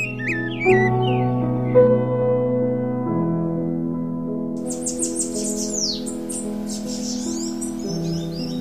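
Birds in the countryside chirp and sing in quick, bright bursts, briefly at first and then in a steady stream of twittering, over soft, sustained, calm instrumental tones.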